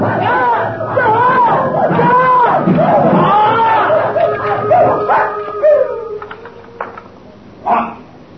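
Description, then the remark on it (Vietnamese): Several dogs bark and howl in a dense, overlapping chorus for several seconds, then trail off into a few scattered yips and one last sharp bark against a background hubbub. “Trời ơi, cái gì làm con vậy trời? Chó sủa.”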